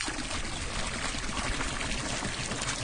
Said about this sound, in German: Aufgekocht und gereinigt, wie er sagt, geht es zurück in den See, vorbei am Gipfelkreuz den Kiesweg hinunter. Das heiße Wasser schwappt im steten Rhythmus seiner Schritte im gelben Kanister auf seinem Rücken.